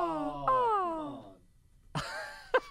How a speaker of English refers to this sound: Is that Garage Cat? Hooman whines.